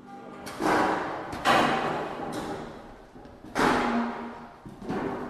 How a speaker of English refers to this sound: Like a lot of shape note sings, this one starts with folding chairs. And the way the chairs are set up is key. They're arranged in a square, all facing the middle.